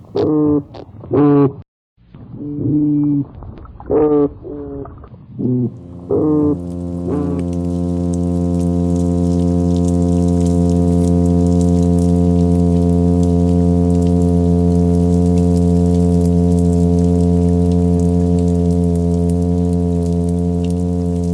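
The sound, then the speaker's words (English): A fish's low, steady hum starts after a few seconds of brief voice-like sounds, then drones on continuously and evenly at a fairly loud level, buzzy and rich in overtones, with faint hiss behind it. “Some fish emit amazing humming sounds.”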